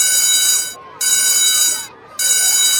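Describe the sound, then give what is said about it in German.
A loud, shrill electric school bell rings three times in long, rattling bursts separated by brief pauses, its bright metallic clangor steady throughout each ring, signalling the end of the school break. “Die Klingel ertönt, dreimal. Die Schulpause ist zu Ende.”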